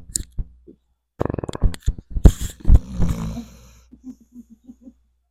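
A dog named Fang snores, with rattling, wheezy snorts and raspy breaths that swell loudly, then trail off into a run of soft, evenly spaced little snuffles. No one talks.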